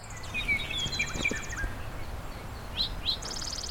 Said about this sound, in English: That's a song sparrow. They've been here all winter, and they started singing actually in February.